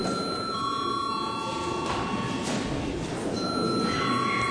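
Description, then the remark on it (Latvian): An electric bell rings continuously for several seconds in a parliament session to signal a break, a steady, bright metallic ringing with no pauses, fairly loud against a faint background hum. “Tā kā ir pienācis laiks pārtraukumam, tad lūdzu zvanu.”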